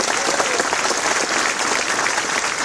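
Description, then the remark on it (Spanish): Sustained applause from a large audience for the municipalities, a dense, steady roar of many hands clapping at once, loud, with no break across the whole stretch. “a las autoridades de los mares y las juntas de buen gobierno, a los municipios, un aplauso, Vicente Guerrero.”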